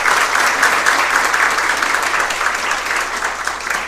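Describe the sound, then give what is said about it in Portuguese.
Steady, dense audience applause for an honoree, a former goalkeeper, at a tribute in Uruguaiana, many hands clapping together in a loud, continuous wash that holds at an even level for a few seconds without any voices on top. “Então, uma salva de palmas ao nosso homenageado por tudo que ele representa.”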